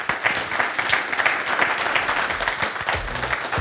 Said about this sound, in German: Den Applaus haben Sie ja schon genossen, oder? Schaffen vielleicht noch einen.